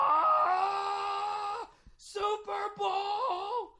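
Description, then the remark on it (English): A man imitates a sports fan in a sports bar yelling after a touchdown: one long, sustained, strained shout, a short pause, then a second wavering outburst with a few breaks, loud. “He just kept yelling.”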